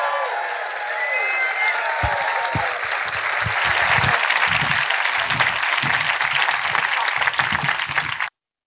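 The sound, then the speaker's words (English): An audience bursts into loud, sustained applause as performers come up to the stage, a dense wash of clapping that swells and stays intense for several seconds before cutting off abruptly, with faint cheering mixed in. “Going up to rapturous, deafening applause”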